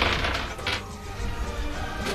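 A few sharp clattering knocks and rattles, fairly loud, as dice are tossed and tumble across a game board, with a low background hum and no talking.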